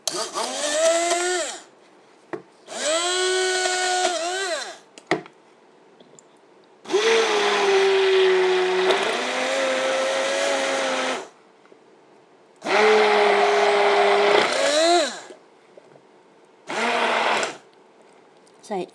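An electric stick blender whirs loudly in several bursts of a few seconds each while mixing ingredients in a bowl, its motor pitch rising and falling with each pulse, separated by brief pauses.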